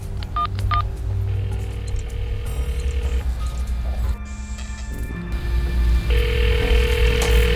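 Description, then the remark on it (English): A man phones his daughter: a few quick keypad beeps are followed by steady electronic ringing tones, all fairly loud over a low, continuous hum, with no one speaking; she does not answer. “She does not answer the phone.”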